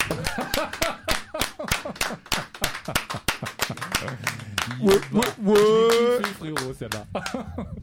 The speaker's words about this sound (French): Donc je crois qu'on peut applaudir là.